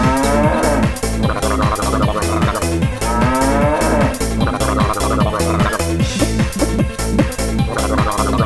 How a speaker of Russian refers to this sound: бык корову тык, корова мык, спасибо, бык.